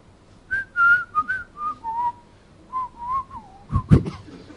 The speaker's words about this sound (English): I can't whistle too much.